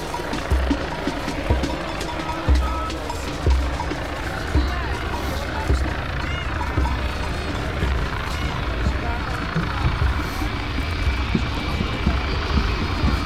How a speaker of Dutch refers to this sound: Dan gaat nog een vliegtuig.